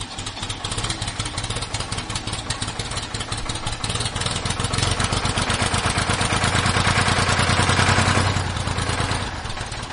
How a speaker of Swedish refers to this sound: Jag startar motorn och ska försöka.